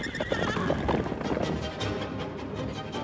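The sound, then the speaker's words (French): A horse whinnies loudly, then hooves clip-clop in a steady rhythm as it moves off, with rustling noise underneath. “Remettez-le maintenant sur son cheval ridicule et qu'il parte.”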